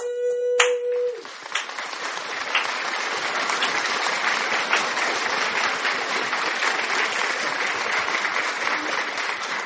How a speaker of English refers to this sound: Au nom puissant de Jésus-Christ de Nazareth, applaudis pour le Seigneur très fort. Applaud, applaud, applaud, applaud, applaud, applaud, applaud.